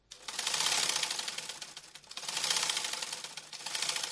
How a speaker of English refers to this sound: works on a sewing machine.